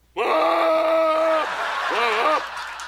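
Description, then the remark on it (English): A goat bleats in distress on seeing a gravel pit it has been dragged to, first a long, loud, strained cry of over a second, then a shorter wavering call shortly after, prominent with no talking. “We actually have footage of the goat's reaction on seeing the gravel pit.”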